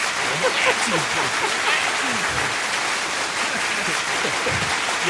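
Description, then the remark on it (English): Steady crowd applause sound effect played from a soundboard fills the whole stretch, a dense continuous patter of clapping at even loudness, with some murmuring voices underneath. “Round of applause. Totally didn't mean to click that.”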